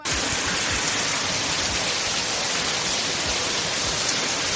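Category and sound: nature, hailstorm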